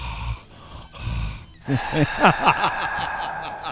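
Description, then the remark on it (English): Heavy, rhythmic breathing close to the microphone: low huffing breaths at first, then quick voiced gasps and wheezy panting sounds in a rapid run, with no speech. “Where's that breathing one? I could do that one.”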